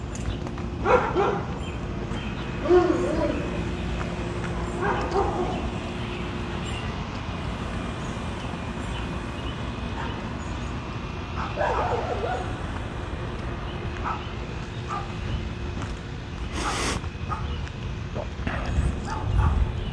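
Several dogs bark and yip back and forth over a steady outdoor noise, the calls scattered and irregular, with a few sharper yelps standing out.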